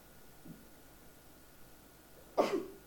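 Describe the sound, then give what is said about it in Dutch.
A single short, breathy blast of a nose being blown, loud against a quiet background, with a faint soft sound earlier and no talking. “En dan denk je van, even mijn neus snuiten.”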